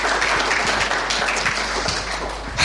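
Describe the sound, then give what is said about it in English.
A church audience breaks into steady applause for the pastors, a dense wash of many hands clapping at once, loud and sustained for a few seconds with no voices over it. “So I think we should just give them both of a round of applause for all the work they do.”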